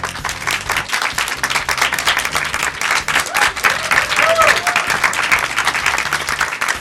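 A studio audience on the 6th floor of rue Bayard, at RTL 2 during the show Le Drive, breaks into sustained, dense applause to welcome a guest musician, many hands clapping steadily for several seconds, with a few faint cheers and whoops rising through the noise.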